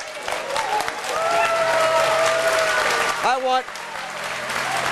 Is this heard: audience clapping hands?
yes